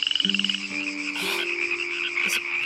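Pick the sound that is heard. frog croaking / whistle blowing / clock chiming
frog croaking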